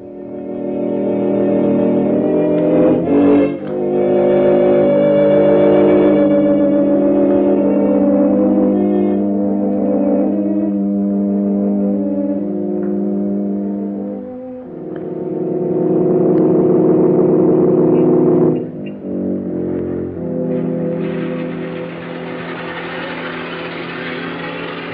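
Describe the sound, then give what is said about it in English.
A car engine runs steadily with a low droning hum, its pitch shifting a few times as the vehicle slows and pulls up at night, brought round for its owner by his driver. No voices are heard. “Your car, sir.”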